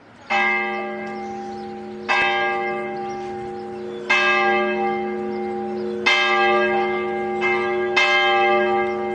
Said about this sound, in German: Wenn der Herr die Glocke von unserer Heimatkirche schlage, so ziehen die Gedanken zu längst vergangener Zeiten. Freilich haben sie oft geklungen, weil im Dorf war Fried und Frei.